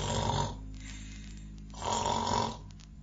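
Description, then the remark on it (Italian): Two loud, rasping snores from a sleeping bus driver, each a drawn-out rattling breath with a deep throaty buzz, separated by a short quieter pause, with no talking. “io trovo l'autista che sta dormendo, russando a voce altissima,”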